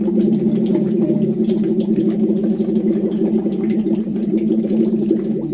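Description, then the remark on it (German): A steady, sustained "oo" voiced by three people at once through a tube into water as voice training, a low buzzing tone with bubbling gurgles running through it continuously for over five seconds. “Und wenn man eben die Stimme dabei trainieren will, dann spricht man ein lockeres, entspanntes U in den Schlauch.”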